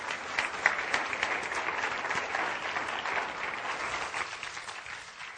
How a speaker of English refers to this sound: And everybody say, amen. Give the Lord a hand clap, would you?